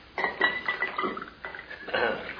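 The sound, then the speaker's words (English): Cognac is poured from a bottle into a glass in a few short gurgling bursts, with light glassy clinks and ringing as the bottle touches the rim. “I'll make mine smaller than the one you poured her.”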